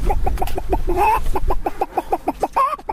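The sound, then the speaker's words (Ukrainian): A tall grey-haired man imitates a clucking hen for children gathered around him, part of a concert of animal imitations: a quick, steady run of a dozen or so fairly loud clucks, with a drawn-out squawk near the middle and another at the end. “Высокий сивый дядька собрал вокруг себе детей и выдавал им целый концерт, имитуючи гуки разных живёл.”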